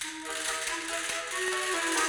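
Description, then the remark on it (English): Castanets clatter in quick, dry clicks and short rattling bursts, set against a steady bright shimmer with faint sustained tones underneath, at an even moderate loudness throughout. “And castanets.”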